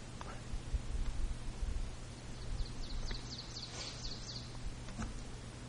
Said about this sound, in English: Birds helping us to do it.